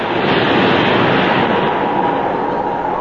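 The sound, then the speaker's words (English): A steady, loud, continuous roar of English Channel surf washing onto the beach at Pevensey Bay on a bitterly cold winter day, with no distinct individual wave crashes and no voices. “I'm now addressing you from the beach at Pevensey Bay, where the great English channel meets the great British sewage system.”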